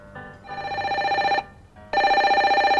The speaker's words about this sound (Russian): Вот в этой мастерской и раздался звонок музыканта. Дед был уставший и не хотел брать трубку, но телефон был настойчив.